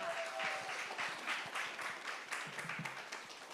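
A crowd applauds steadily, many hands clapping together in a dense, sustained patter at moderate volume, with a few faint voices and cheers mixed in.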